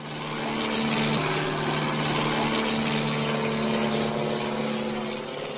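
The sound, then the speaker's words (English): A small propeller plane's engine drones steadily and loudly throughout, a constant buzzing hum with a low tonal whine and no speech. The plane is flown by Petr Mara without navigation tools, like Jan Kaspar, about 500 meters above the ground in November, to Prague's Kukla racetrack. “Lacking navigation tools like Jan Kaspar himself so many years ago, Mara took to the air”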